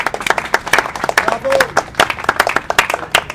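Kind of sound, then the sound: crowd, audience applause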